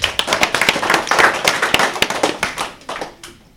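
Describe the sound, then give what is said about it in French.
An audience at a school radio game show, the Bubble Game, applauds CM2 pupils with a dense, steady patter of overlapping hand claps, loud and sustained before thinning out toward the end. “On peut les applaudir.”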